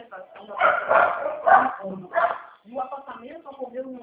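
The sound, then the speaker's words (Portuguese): Small pet dogs, which had climbed onto the TV remote, bark in a quick, shrill flurry of yaps, then fall back as a voice carries on talking. “É que meus cachorrinhos subiram no controle.”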